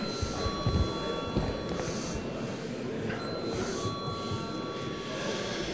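A continuous electric call bell in a parliament rings steadily for several seconds, calling deputies to vote on the first proposal, a defence ministry proposal: a sustained buzzing, high-pitched tone over a low background rumble and murmur, with no pauses or change in level.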